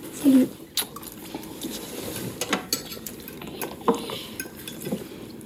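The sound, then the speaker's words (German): A utensil scrapes and clinks against a pot as pasta is stirred during home cooking in a Paris suburb, with scattered sharp taps of dishes over a soft, steady background hiss. “Sie kocht Essen oder bringt die Kids ins Bett.”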